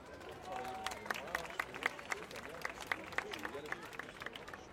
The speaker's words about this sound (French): Vous pouvez applaudir les architectes.